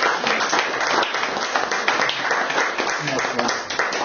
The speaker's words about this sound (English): Did you all enjoy that? Yeah. Can we give God a clap?